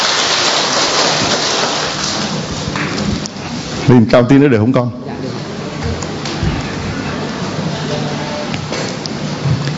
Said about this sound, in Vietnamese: Chúng ta cho một tràng pháo tay chào người anh em này, thưa anh chị em.